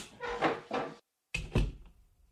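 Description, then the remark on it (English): A door opens and then closes as Judge John Hodgman re-enters the courtroom, two fairly loud wooden bursts of sound separated by a brief silence, with no one speaking. “Just a point of clarification, as I was listening to the door, Jesse, at your son's preschool or preschool.”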